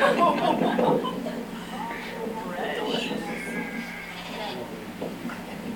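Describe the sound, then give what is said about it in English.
Sheep bleat repeatedly as the flock comes running out of the fog, their wavering calls overlapping in a loose chorus, with indistinct human voices murmuring underneath. “We're all going to want to get sheep soon.”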